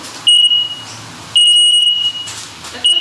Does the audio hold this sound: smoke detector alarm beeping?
yes